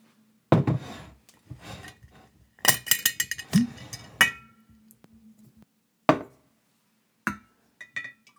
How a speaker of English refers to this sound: So on that note, I will bring over my giant glass jar, and we'll open it.